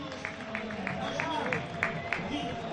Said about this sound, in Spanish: Hay aplausos para Mendy. Para De Frutos, que abandona también el terreno de juego.